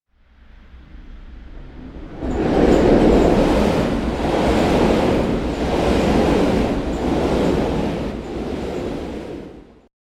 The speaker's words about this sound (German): Der Zug.